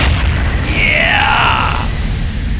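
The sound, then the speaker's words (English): A loud sonic boom effect as a car breaks the sound barrier: a heavy, continuous low rumble with a bright whooshing tone that sweeps through and bends downward midway before fading back into the roar. “The paint on your car will begin to peel off as you break the sound barrier.”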